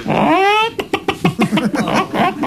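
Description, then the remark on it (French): A person imitates a hen: a rising, drawn-out squawk followed by a quick series of short, choppy clucks in an uneven rhythm, fairly loud, with no other talking. “La poule.”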